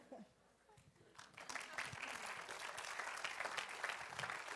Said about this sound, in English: All right, give him a great clap offering, would you?